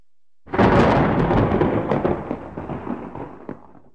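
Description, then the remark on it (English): A deep, loud roll of thunder from an approaching storm breaks in suddenly and rumbles on for several seconds, slowly fading with a few crackling bursts near the end, no voices present. At night at the top of a lighthouse by the sea, stars clouded over. “That's the sign that a storm is approaching.”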